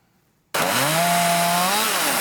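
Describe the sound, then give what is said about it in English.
A chainsaw roars to life abruptly and runs loud and steady, its engine drone wavering slightly in pitch as it bites into the wood of the state Christmas tree being dismantled outside the state capitol, with no voices. “Outside the state capitol, they were dismantling the state Christmas tree.”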